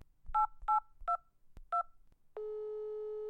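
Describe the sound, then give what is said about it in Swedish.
Telephone keypad dialing the emergency number 112: four clear touch-tone beeps at an uneven pace with soft button clicks, followed by a steady, continuous line tone that holds until the end. “Jag ringde naturligtvis 112.”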